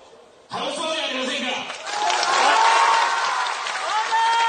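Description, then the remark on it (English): A large crowd cheering on a speaker bursts into cheering and applause, a dense wash of clapping and raised voices that swells louder after a couple of seconds and stays loud throughout. “He has a huge crowd that's cheering him on.”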